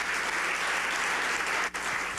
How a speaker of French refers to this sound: On s'auto-applaudit. C'est malade.